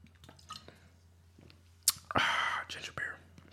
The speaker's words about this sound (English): Let me get a sip.